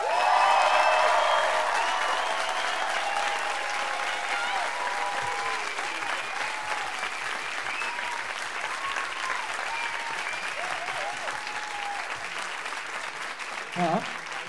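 Sustained audience applause, a dense wash of clapping that stays steady for about fourteen seconds, with faint cheers and whoops rising above it near the start.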